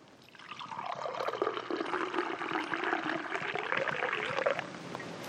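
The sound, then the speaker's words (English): Wine pours steadily into a cup during a communion service for about five seconds, a gurgling stream whose pitch rises gradually as the vessel fills, with no voices. “Jesus also took wine, fruit of the grape, and he poured it out.”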